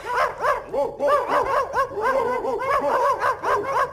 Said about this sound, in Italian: Riconosci questi simpatici cagnolini, caro Igor? Diciamo cagnolini, forse nel tuo caso il problema è stato diverso.